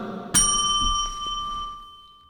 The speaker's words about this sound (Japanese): はい、ちょっと今日鐘の音がなんかちょっとはいそこまで的な感じがしますけど、 内部合格みたいな感じ。